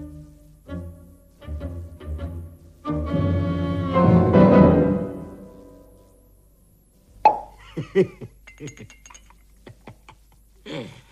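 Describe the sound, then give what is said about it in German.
The cork of a second bottle of Steinegger wine pops out with a sharp plop after a stretch of squeaky twisting, followed by a few light clinks and splashy sounds of pouring. “Prost, meine Damen und Herren. Ich beginne mit der zweiten Flasche Steinegger.”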